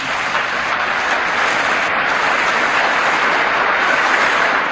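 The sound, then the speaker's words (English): Sustained audience applause for Michael Parenti's 1993 talk Conspiracy and Class Power, a dense, steady wash of many hands clapping at once, loud and even throughout with no pauses and no voices on top. “A long and well-deserved round of applause for Michael Parenti's brilliant 1993 talk, Conspiracy and Class Power.”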